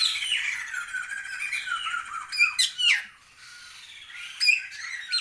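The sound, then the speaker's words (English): Sumatran laughing thrushes in a forest aviary in the mountains of West Java call in a loud, continuous chorus of harsh squawks and chattering cries, with sharper bursts standing out near the middle and toward the end. No one speaks. “Yeah, these noisy characters are Sumatran laughing thrushes.”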